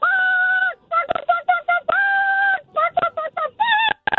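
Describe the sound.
A woman imitates a chicken call with her voice over a phone line, loud: two long, high, screechy crowing notes broken up by quick, choppy clucking bursts, all with a thin, telephone-like tone.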